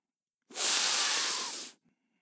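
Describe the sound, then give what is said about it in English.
A voice imitates one long, forceful sniff through the nose, the sound of a young man in a truck's passenger seat snorting a line of something, a hissing, breathy snort lasting just over a second, loud with nothing else around it. “And I looked over there at him, and he is sniffing, snorting a line of something in my truck.”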